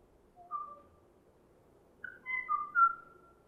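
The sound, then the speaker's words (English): A Kauai oo calls from afar in a forest with clear, hollow whistled notes, a brief pair followed after a pause by a longer run of overlapping whistles, set against a faint, steady background hush, with no other bird answering its call. “And you can hear the kwai-au calling out in the far, in the ambient sound of the forest, and there is no other bird to answer its call.”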